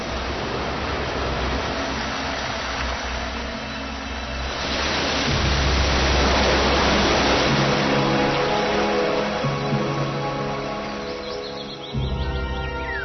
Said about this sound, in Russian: Малейшее дуновение ветерка, и эта водяная пыль соединяется в капли. Так рождается дождь, который бесчисленными водопадами устремляется вниз.